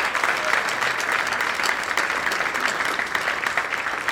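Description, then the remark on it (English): A steady burst of audience applause for the party chairs on stage, dense overlapping clapping at an even loudness that holds for about four seconds without letting up. No voices stand out. “But let's hear it for our respective chairs here.”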